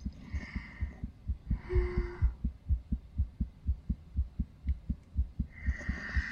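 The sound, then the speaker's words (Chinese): A rapid, steady heartbeat thumps in low, muffled pulses, with soft breathy whooshes rising and fading over it a few times. “不，他们说是胖的人心跳快。”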